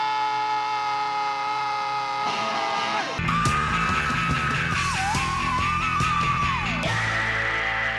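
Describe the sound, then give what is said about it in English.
A string of loud, raw rock screams isolated from songs and spliced together, each held against dense distorted band music, cutting abruptly from one to the next in a continuous shrieking collage. “They filled out these forms, and from those forms, I then found that song, isolated the scream, and then composed the track.”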